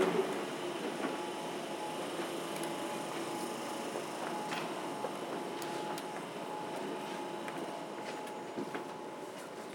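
train

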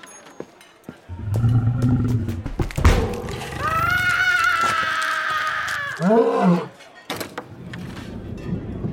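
lion roaring

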